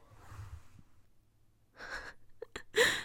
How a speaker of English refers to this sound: I was breathing out and then I breathed in really like sharply and it made me cough, sorry.